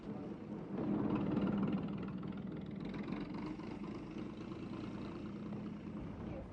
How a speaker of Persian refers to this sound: نگاه کن، حواستو جمع کن، فکر میکنی این کامیون واسه چیه؟